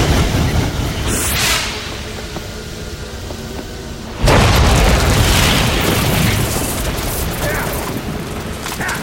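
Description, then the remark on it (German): A steady, rumbling noise bed gives way to a sudden, loud sci-fi blast as Kantiran fires his disintegrator, its greenish tracer beam turning machine skeletons into glowing atomic dust; a harsh roaring burst that holds its force and then slowly thins out toward the end. “Kantiran hob seinen Desintegrator und feuerte.”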